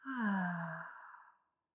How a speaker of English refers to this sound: Let's begin with a few deep breaths. You can inhale through your nose. And exhale out the mouth.